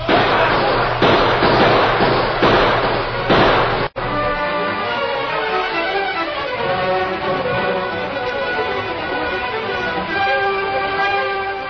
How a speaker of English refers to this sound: Listen. Guns, honey.